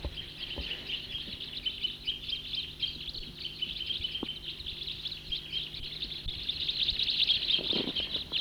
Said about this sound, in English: Stopped. There it goes again. Crossbill song. Stop. About 10 birds. Stop.